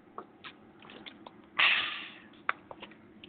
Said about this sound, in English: Actually, I'm going to take me a sip of water before I do this right quick here.